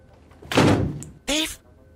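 A door is opened with a dull thunk and a brief rattle, followed moments later by a short, strained vocal sound.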